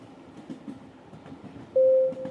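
A massive train driven by its driver rumbles steadily along the rails, a low, continuous clatter, broken near the end by a short, loud, steady tone that stands out above the noise.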